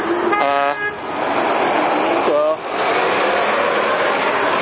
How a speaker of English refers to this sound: Looks like you're getting some honks. Yeah. More than when I arrived, so keep up the good work.